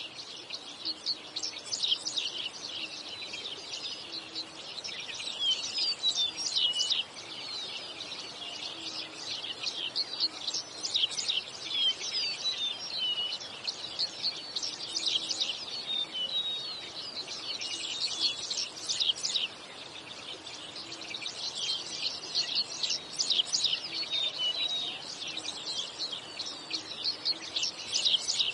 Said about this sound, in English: But today, rather than tell you all the great things about Bird Note, we're going to let our feathered friends do the talking. Enjoy this minute of uninterrupted bird song.